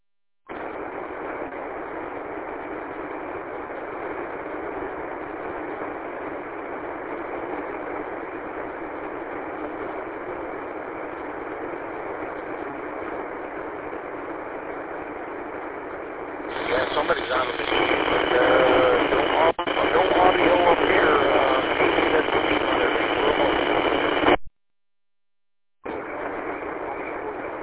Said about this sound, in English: HFNet Sunday night at 5 o'clock, so that's why you're hearing what you're hearing. It's HF. There's no squelch, so you just gotta be patient and see what we're gonna do here.